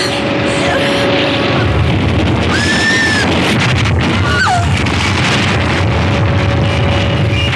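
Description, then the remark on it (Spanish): A police motorboat's engine roars loudly without letup as it flees across the sea, chased by four coast guard boats, buried in rushing wind and spray, while a couple of brief rising whistles cut through midway. “tratan de escapar a bordo de una lancha policíaca y son perseguidos por cuatro embarcaciones del servicio de guardacostas”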